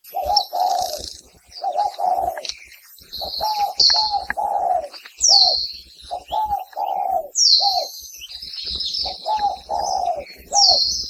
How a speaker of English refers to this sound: If you live in any urban or rural area across Hawaii, you likely have spotted doves living nearby and can hear their various types of coos throughout the day.